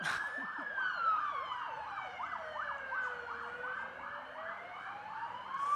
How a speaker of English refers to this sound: Just going to pause for the sirens.